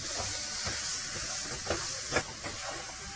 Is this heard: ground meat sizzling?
yes